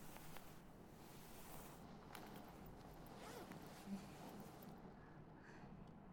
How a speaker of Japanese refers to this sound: なんかいつもよりチャック開けるの手間取っちゃいますね。